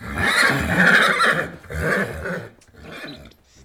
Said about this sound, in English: The sound you've just heard is snorting. That's the sound made when we, or an animal, force air quickly and noisily up and down through our nose.